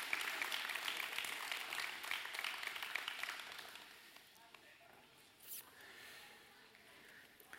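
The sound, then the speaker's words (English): A church audience applauds for the youth and kids as they are dismissed, a dense, steady wash of many hands clapping that holds for a few seconds, then thins out and fades to a few scattered claps and murmurs. “Big round of applause. Y'all clap for the kids, please.”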